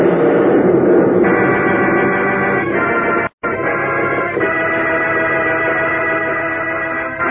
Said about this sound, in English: Thrown from their feet as another titanic explosion seems to shake and rend Apollo apart.